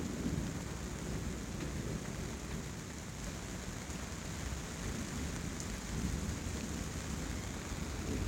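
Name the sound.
heavy rain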